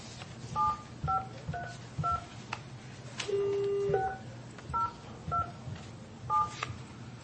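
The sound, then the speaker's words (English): A phone number called earlier is dialed again on a keypad: a string of short, clear touch-tone beeps in an uneven rhythm, broken midway by a longer steady tone, over a low background hum. “I'm going to know this phone number by heart by the time we're done.”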